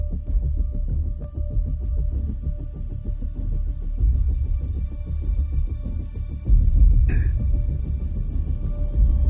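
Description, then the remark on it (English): A helicopter sound effect: a steady, loud, low rhythmic throbbing of rotor blades runs throughout, with a constant hum layered on top and a brief higher whine partway through. No one speaks. “I like he's got the helicopter type sound effect.”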